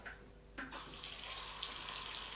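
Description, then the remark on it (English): A tap turns on and water runs steadily into a sink for rinsing the mouth after teeth brushing, a continuous hiss and splash with a brief gurgle near the start, no voices. “Let's put a bit of water in your mouth.”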